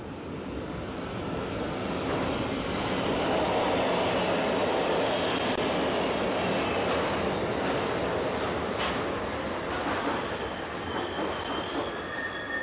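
vehicle, subway train passing

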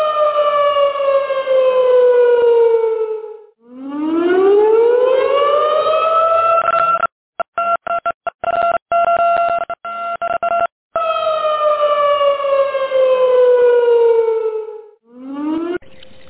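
sound effect, siren-like alarm sound effect

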